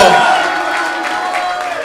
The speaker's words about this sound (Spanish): ¡Aplauso!